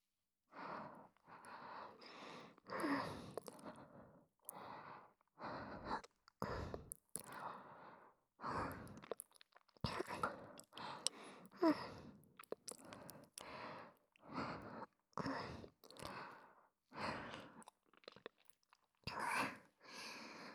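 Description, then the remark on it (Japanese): Wet, smacking ear-licking mouth sounds repeat in an uneven rhythm, one or two bursts per second with short breathy gaps between them, steady and fairly loud throughout, with no talking. “私、お兄ちゃんのお耳舐め回すの好きかも。”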